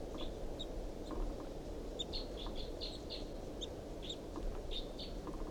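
A wild bird high in a tall pine above a truck chitters in response to decoy calls, in short, rapid bursts of high-pitched notes, repeated irregularly over a steady low rumble of background noise, fairly faint.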